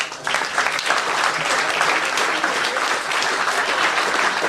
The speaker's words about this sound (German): So, einen großen Applaus.